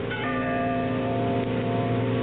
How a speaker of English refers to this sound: did you hear that? Ah, Bell. I think it comes from way down there in the gorge.